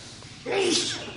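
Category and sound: human body sound, sneeze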